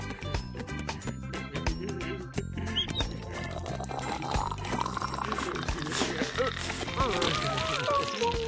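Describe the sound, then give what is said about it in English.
Bath water pours and splashes in a steady rushing stream as a tub is filled for Charlie, its pitch slowly rising as the tub fills, with a light tune playing underneath. “I think you need a bath this time.”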